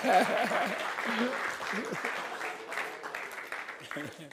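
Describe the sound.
A crowd claps steadily in dense, continuous applause that stays fairly loud throughout, with scattered voices and a little chatter mixed underneath.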